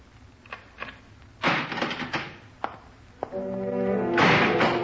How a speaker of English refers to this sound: The cell was that dark. But when the door clanged shut behind me, I realized the irony of the situation.